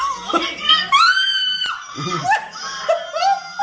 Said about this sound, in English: Yeah, I think when she screams, I think that's when something started pushing through, or that was the point it got real.